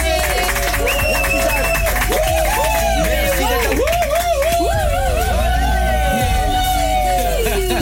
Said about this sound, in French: on peut l'applaudir.